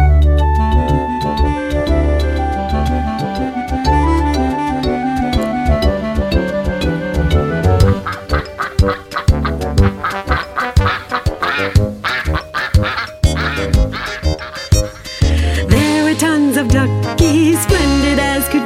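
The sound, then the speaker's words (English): A crowd of ducks quacks loudly and continuously, with many overlapping, nasal calls piling on top of one another in a busy chorus that grows choppier toward the end. “Then before you knew it, there were duckies everywhere, dressed up in their best and finest outerwear, quacking up and down the streets and every part of town.”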